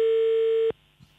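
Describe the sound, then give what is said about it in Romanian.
A steady telephone dial tone of an outgoing call sounds loud and continuous for about 0.7 seconds, then cuts off abruptly, leaving faint line noise and a soft click. “Hai că uite, încercăm acum să sunăm, să vedem dacă răspunde cineva.”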